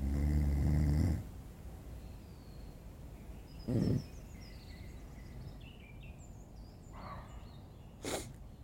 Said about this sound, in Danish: Hvad er det? Det er en hund. Det er en hund.